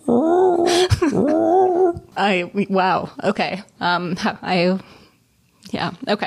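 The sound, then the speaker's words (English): A person gives a long, mournful, wavering vocal wail for about two seconds, imitating a manatee's call, followed by a few seconds of quick speech-like vocal sounds. “The sound of like a manatee, the lone mournful whale of manatee.”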